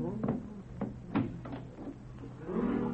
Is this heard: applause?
no